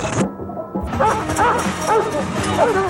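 animal, dog barking

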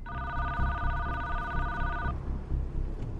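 signal or alarm, telephone ringing

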